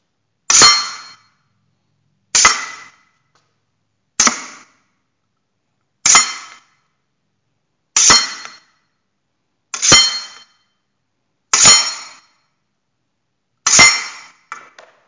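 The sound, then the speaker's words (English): Eight bright metallic clinks from an épée, each a blade slide (glissé) ending in a sharp hit on the bell guard, spaced about two seconds apart with short ringing decays, clear with no talking. “These will be glissé and hitting the bell guard on an épée.”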